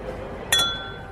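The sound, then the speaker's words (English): A single bright clink of two glasses touching in a toast, ringing out with a clear sustained tone that slowly fades against a quiet background. “Hang on, pick up your glass. Yeah, and we can ching them on.”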